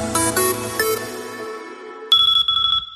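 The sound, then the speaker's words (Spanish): An electronic alarm-style tone: a few ringing melodic notes fade out, then a sharp, steady high-pitched beep cuts in with a buzzy pulsing underneath, loud and with no voices. “Si un bip, bip, bip, bip consigue sacarte de tu cama una mañana de diciembre”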